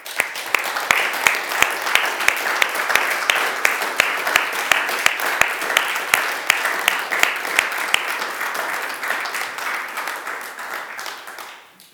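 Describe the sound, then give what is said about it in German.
A crowd applauds the seniors for all they do, clapping steadily for about twelve seconds, dense clapping with a few sharper individual claps standing out, holding level before fading off at the end. “Und ich glaube, wir haben heute zwar schon mal einen Applaus gegeben, aber ich glaube, unseren Senioren ist es wert, mal einen Applaus zu geben für das alles, was sie hier machen.”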